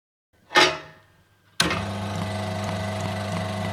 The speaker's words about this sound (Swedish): Då håller den här motorn med ena handen och den andra handen reglerar svarven. Man kan höra hur kolven går upp och ner i motorn då.